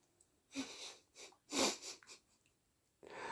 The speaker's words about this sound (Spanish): Ay. Que me da un poco la tos.